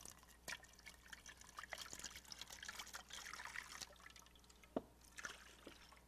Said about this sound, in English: This is a full cup of water, correct? Okay. This water is completely full. But as I continue to pour water in this, here is the cup being filled.